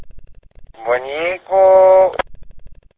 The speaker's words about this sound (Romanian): Ce tot clănțăne, mă, de... N-are muzurație, doar clănțăne așa stația, ce dracu. Băi, vezi că nu-ți merge stația care ești, mă, clănțele doar așa. Ar vrea să aibă modulații.